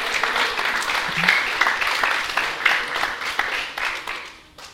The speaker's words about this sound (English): Wonderful. Let's have an applause for the correct answer.